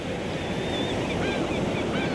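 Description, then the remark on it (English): Deep blue ocean water flows in and out along a sandy shore in a steady, continuous rushing roar, with no pause in the surf over the short stretch and a few faint, thin high-pitched tones drifting above it. “You feel the soft sand between your toes as you stroll along the shore, experiencing the sight and sound of the deep blue ocean water flowing in and out in a soothing rhythm.”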